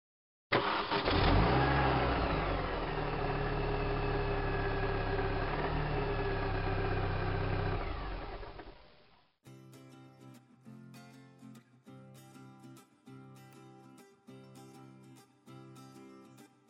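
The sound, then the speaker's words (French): A car engine starts and runs loud for about eight seconds, rumbling steadily before cutting off, followed by a rhythmic musical passage with regular beats. “Monsieur, la voiture.”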